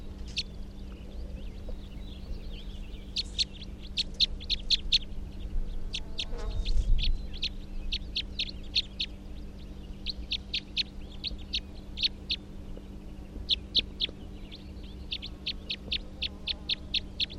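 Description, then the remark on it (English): A bird, numbered 340, repeats its type 3 call: quick runs of sharp, high chirps in clustered bursts, clear, over a steady low electrical hum with no voices. “That's 340, the good type 3.”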